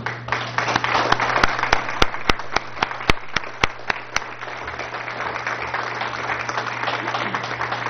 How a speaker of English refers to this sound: So I think we owe them, if we could, a round of applause.